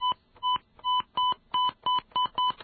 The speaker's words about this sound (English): Right, do I have a dial tone? Not good. Okay.